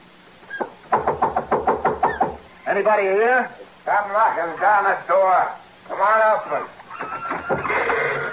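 A quick burst of about eight sharp, evenly spaced knocks on a door, loud, followed by several long, wavering bleat-like cries.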